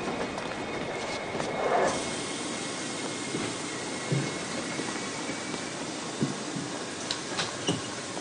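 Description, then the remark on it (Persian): A train to Tehran rolls along the rails with a steady, broad rumble and hiss, punctuated by a few faint clanks and metallic squeaks. The sound is continuous and moderately loud, with no voices. “قطار مشهده؟ نه مادر، قطار تهران.”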